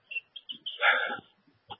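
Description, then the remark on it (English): A grackle calls: a few short, clipped chirps, then a longer raspy, squeaky phrase in a blackbird-like style, ending with one more sharp note. No one is speaking. “Crackle trying to be the blackbird.”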